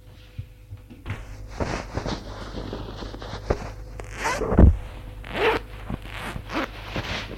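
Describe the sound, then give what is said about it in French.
Someone undressing in a bedroom: a zipper rasps open in quick bursts, with rustling fabric and soft thumps around it, including one sharp low knock midway. No voices. “se déshabille.”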